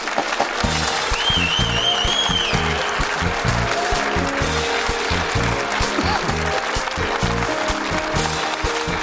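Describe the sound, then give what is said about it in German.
Loud, sustained applause from a TV studio audience welcoming guest Armin Fee, VfB Stuttgart's 2007 German championship-winning coach; dense steady clapping with a few faint whistles rising over it, and no talking. “Häufig zu Gast hier und auch heute wieder mit großem Applaus begrüßt.”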